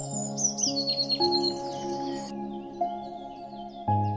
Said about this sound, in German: Die Blaumeise fängt an zu zwitschern. Aber dieses Mal ist es eine ganz andere, viel intensivere Art des Zwitscherns. Du meine Güte!